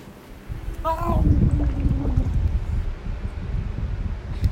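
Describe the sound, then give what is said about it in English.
Water splashing and sloshing that swells after a second and churns steadily for several seconds as a person gets water all over themselves, with a brief voiced exclamation near the start and a breezy, wind-buffeted background. “I just got water all over myself.”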